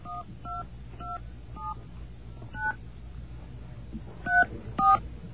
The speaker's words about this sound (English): Actually, I have to dial 0 area code number. Is that how it works now? Okay. 0 area code number.